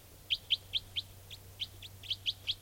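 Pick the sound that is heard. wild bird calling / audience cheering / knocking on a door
wild bird calling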